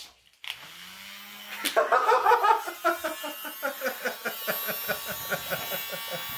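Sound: small electric fan buzzing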